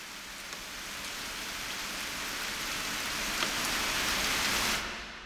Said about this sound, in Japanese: それより急いで帰りましょう。雨が強くなってきました。